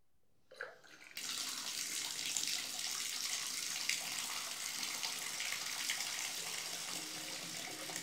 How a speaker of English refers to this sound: Okay, I think we're only supposed to fill up the tub a couple of inches, so this should be enough water.